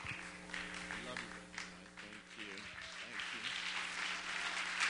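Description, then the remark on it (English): An audience claps their hands for Jesus in a dense, sustained burst of applause lasting the whole stretch, with voices calling out over it and a steady low hum underneath. “Let's give Jesus that great big hand clap.”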